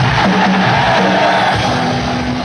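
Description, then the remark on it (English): A large concert crowd roars continuously as a band from San Francisco, California is introduced, a dense wash of cheering and yelling with scattered whoops and shouts rising out of it, loud and sustained throughout. “How was the crowd reaction?”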